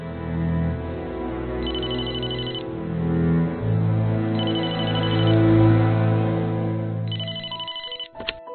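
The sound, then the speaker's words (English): A telephone rings in three evenly spaced bursts, bright, in an apartment kitchen in an audio drama, over a steady background of low, sustained music. No one speaks. “Alone in her apartment, Hannah is in the kitchen when the phone rings.”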